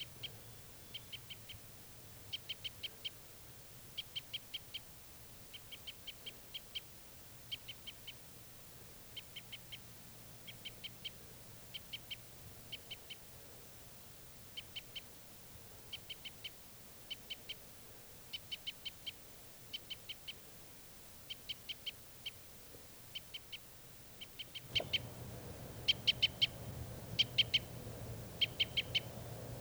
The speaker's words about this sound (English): To that wild bird.